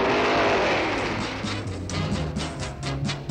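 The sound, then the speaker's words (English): A car engine roars loud, revving up and down in several quick bursts with a rough, rising and falling drone and no voices. “If your present car won't turn on, or if you'd like to buy one that will...”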